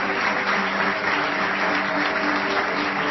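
A crowd applauds steadily for the designers of the Textile Design Laboratory (Laboratorio de Diseño Textil), a dense, continuous patter of many hands clapping at a constant loudness throughout, with no voices standing out.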